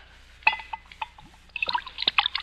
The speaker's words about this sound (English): What are you drinking? Sherry. Will you have a glass? Yes, you can pour me a glass of sherry. Well, I assure you, my friend, it's the very best.